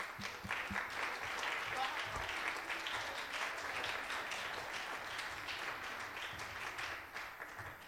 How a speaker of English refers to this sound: And we thank you and applaud you for all that you have done. Can you give our mothers a hand clap?